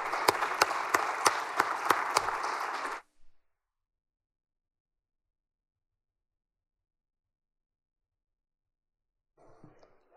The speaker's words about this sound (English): So let's give this group a round of applause.